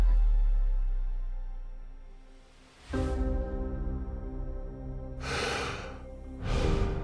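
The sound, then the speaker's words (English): A few slow, airy breaths, in and out, drifting over a low sustained musical drone, with no talking. “Breathing out, breathing in, more precious than it's ever been.”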